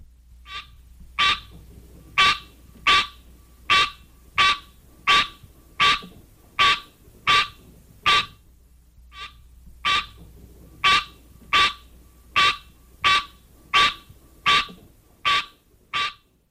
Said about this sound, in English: the green tree frog, Hyla Cinerea, has this call.